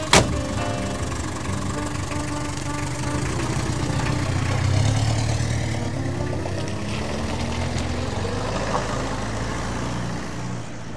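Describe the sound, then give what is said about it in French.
A taxi engine hums steadily from inside the moving car on the way to King Khaled International Airport, a constant low rumble with road noise that swells slightly midway, with no voices. “Puis elles sautent le plus vite possible dans un autre taxi qui est conduit par un étranger.”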